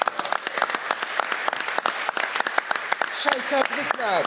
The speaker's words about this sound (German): Aus Saarbrücken ist auch jemand da, habe ich gehört. Ne? Einen kleinen Applaus für den Mann aus Saarbrücken.